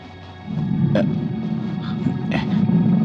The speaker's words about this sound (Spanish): De pronto, la sangre se paraliza en sus venas al oír un rugido. ¿Rugidos? Creo que es el maldito tigre.